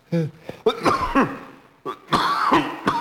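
A loud fit of raspy, throaty coughs comes in two quick clusters separated by a short pause, each burst harsh and partly voiced, with no talking in between.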